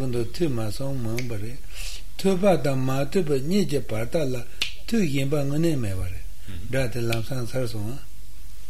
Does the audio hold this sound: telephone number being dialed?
no